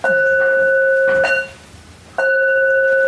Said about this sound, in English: Four bells? Do we sing? Oh, yes. Sorry, four bells. Getting ahead of myself.